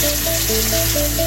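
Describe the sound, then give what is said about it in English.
Steady hiss of water running from a tap for washing, constant and fairly loud throughout, with faint soft tones sounding underneath. “The water you wash in.”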